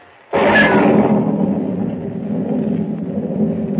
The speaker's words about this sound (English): Lightning cleaves the black sky and thunder crashes as Pug, unable to swim, drops like a plummet into the raging, storm-swept sea.